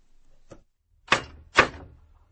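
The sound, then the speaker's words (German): Knocking on the door of a white house in the middle of a forest: a soft tap followed by two loud, solid knocks about half a second apart, each with a short hollow ring, with no voices. “Ich klopfte an die Tür.”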